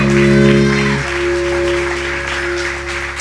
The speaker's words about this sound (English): Hallelujah. Give the Lord a big round of applause one more time.